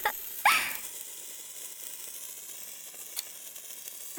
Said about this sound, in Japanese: 手持ち花火もいいもんだよね。